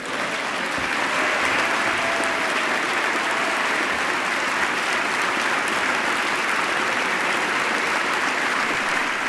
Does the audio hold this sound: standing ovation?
yes